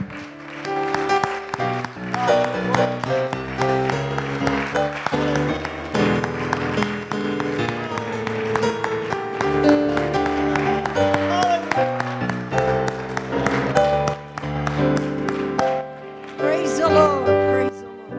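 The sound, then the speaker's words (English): An audience claps steadily for nearly twenty seconds, a hand clap of praise to God: a dense wash of hand claps mixed with sustained organ or keyboard chords and scattered voices calling out underneath. “Can we give him a hand clap of praise?”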